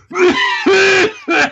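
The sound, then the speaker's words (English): A person imitates a harsh coughing fit of consumption with their voice: three loud, strained, hacking bursts in quick succession, forceful, with no other talk. “Consumption. That was obsolete.”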